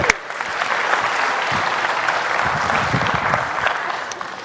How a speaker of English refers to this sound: All right, give them a round of applause. Woohoo!